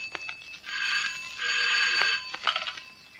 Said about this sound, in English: In another part of the building, the phone rings.